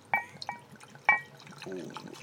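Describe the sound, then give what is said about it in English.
Wine is poured into a glass: three bright glassy clinks ring out, then a steady gurgling stream runs with a rising, filling tone. Faint voices murmur underneath. “Fresh pour. Please don't pour on that.”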